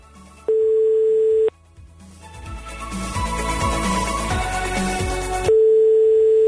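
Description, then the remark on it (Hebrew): A steady electronic line tone sounds, then a rapid string of dialing beeps and clicks rises in level as a radio host dials a listener live on air, and the flat tone returns at the end. No one speaks. “ועכשיו אנחנו הולכים להפתיע אחד או אחת מכם. בואו נחייג.”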